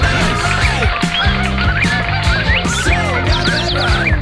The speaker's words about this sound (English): What do you say it is? I'm gonna say an Arctic tern. An Arctic tern is a beautiful answer, and it's even the correct answer.